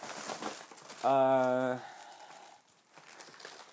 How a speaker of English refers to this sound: Just making sure that we don't touch the cables with this smelly dog food bag. So anyway, I'm unrolling it.